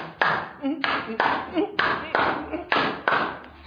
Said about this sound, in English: Oh, clap your hands. Some people don't know how to do.